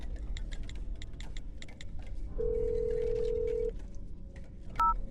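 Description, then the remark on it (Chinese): A telephone number is dialed to call Long-ge: a rapid string of short dialing beeps or clicks, then a steady held tone for about a second, followed by a brief two-tone chirp, all over a low background hum with no voices. “我要马上打电话给龙哥。”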